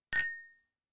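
A single bright clink of a bottle tapped against a can of water in a toast, sharp, with a short metallic ring that fades within half a second. No voices.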